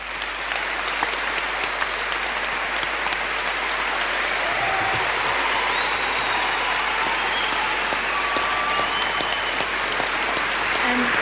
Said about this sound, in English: Now, as you can hear, Nelson Mandela is standing before the crowd, and again, the crowd is up on their feet and cheering and welcoming Nelson Mandela here to Melbourne.